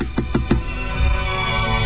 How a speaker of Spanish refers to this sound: estamos de cumpleaños, entonces le vamos a golpear la puerta, a ver.